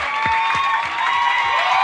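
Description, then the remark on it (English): An audience, risen to its feet to show appreciation for a couple, claps together in a dense, steady wash of applause, with sustained voices or music ringing through it and soft rhythmic thumps underneath. “If you want to clap, clap.”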